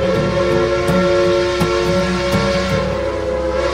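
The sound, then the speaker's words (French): Steam hisses steadily beneath layered, whistle-like tones, while sharp mechanical clicks and clanks, like turning gears, tick at uneven intervals throughout. No voices are heard. “Nos concitoyens apprécient notamment le sifflement de la vapeur qui s'échappe, les petites énergies de engrenage.”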